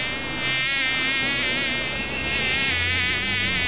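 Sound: flies buzzing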